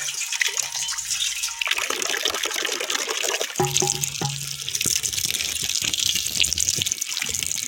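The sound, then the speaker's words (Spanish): Water runs steadily from a village fountain, a continuous splashing rush with no voices, and a brief hollow, ringing tone partway through as if a vessel catches the flow. “Cuando ibas a la fuente a coger agua para echarla en la tinaja,”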